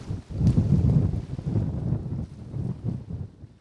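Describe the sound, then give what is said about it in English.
Strong wind gusts roar and buffet across the Mississippi River, raising waves during a canoe trip, a loud, rumbling low-pitched rush that surges and eases over a few seconds with no voices. “Big wind.”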